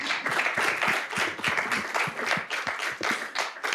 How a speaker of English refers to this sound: Thank you so much. Can we give our panel a round of applause?